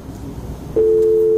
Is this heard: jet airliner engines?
no